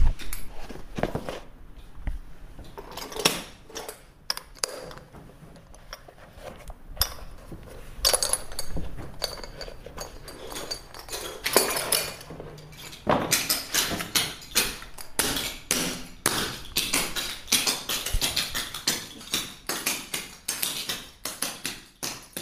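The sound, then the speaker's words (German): Someone who has just slipped into clogging shoes takes their first steps: sharp clacking steps, at first sparse and hesitant, then turning into a quicker, denser run of bright metallic taps. No one speaks. “Nachdem ich in die Schuhe reingeschlüpft bin und auch schon meine ersten Schritte gemacht habe, war das Gefühl erstmal an den Füßen ungewohnt, auch gewöhnungsbedürftig, aber man ist relativ schnell reingekommen.”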